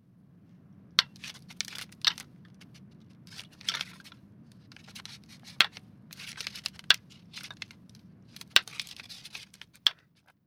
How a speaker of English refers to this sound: These are deer fighting.